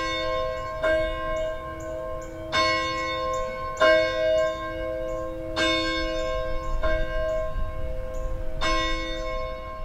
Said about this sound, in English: While some folks were preparing for the Fayetteville Farmers Market Winter Market, a small group gathered on the west side of the building to watch David Lewis ring the church's bell.